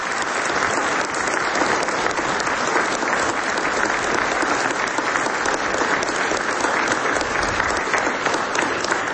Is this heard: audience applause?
yes